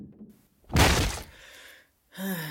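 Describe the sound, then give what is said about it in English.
A door is kicked open with one loud, sharp crash that rattles briefly and fades, followed by a short startled vocal sound. “Of course I kicked the door open.”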